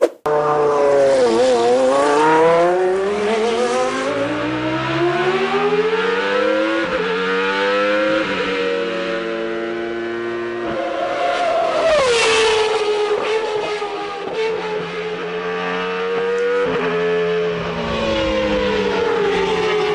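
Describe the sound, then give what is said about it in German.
A powerful sports car engine revs loudly and continuously, its pitch climbing and dropping through repeated throttle blips and gear changes, with no voices. “Wir hören einmal kurz in diesen Motor rein, das müssen wir uns jetzt einmal gönnen.”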